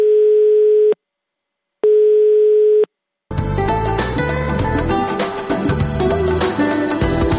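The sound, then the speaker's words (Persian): Two steady telephone line tones from Radio Azadi's automatic answering phone line, each about a second long with a short gap between, sound loud and clear before a burst of music takes over. “امیدواریم کسانی که در مورد گمشده ها معلومات داشته باشند، پیام هایشان را در تلفن اتومات رادیو آزادی ثبت نمایند.”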